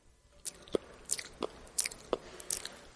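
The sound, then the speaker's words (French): Wet biting and chewing into a tender piece of a man's flesh with few sinews: half a dozen squelchy, slightly crunchy mouthfuls in an irregular rhythm, fairly loud against a quiet background, with no voices. “Je choisis une pièce tendre. Une où il n'y a pas trop de nerfs, parce que ça me dégoûte sinon. Et je croque.”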